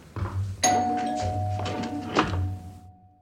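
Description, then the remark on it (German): A doorbell rings once with a bright, sharp strike, its clear tone lingering and slowly fading while low, muffled thumps and rumbling continue underneath. “Die Tür.”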